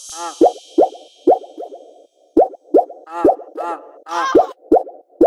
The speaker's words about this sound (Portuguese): Olha o barulho da água.